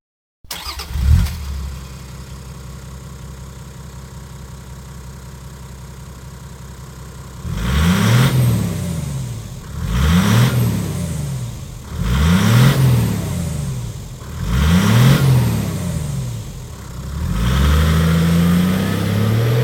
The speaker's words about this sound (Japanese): ランドクルーザー100 KR-HDJ-101K。 このマフラーは 4WD バーテックス GD78。